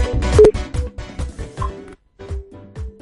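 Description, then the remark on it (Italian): A phone ringback tone sounds for an outgoing call to a radio listener, a steady electronic hum pulsing on and off while a rhythmic, thumping beat plays underneath. No one speaks. “Squilla vuoto, forse è in macchina, ci sta ascoltando in macchina.”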